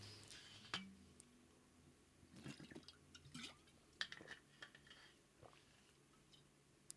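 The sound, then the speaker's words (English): Someone drinks a glass of water: a few soft gulps and swallows with small wet clicks and sips spaced irregularly, quiet overall, with no talking. “I'm going to grab a drink of water here.”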